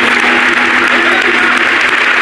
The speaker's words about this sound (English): Let's lift our hands and love the Lord again right now. Can we do it in Jesus' name? Give the Lord a good clap offering of praise.